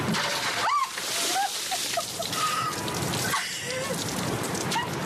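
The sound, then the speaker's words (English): A bucket of warm water is dumped over actress Meghan Markle as she takes the challenge, giving a loud, steady splattering rush that lasts several seconds, with brief high-pitched yelps and voices cutting through the spray. “I did see a lot of water now.”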